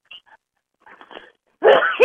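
A sudden, loud sneeze bursts out near the end after a few faint, soft sounds, forceful, with a quick second gasp right after.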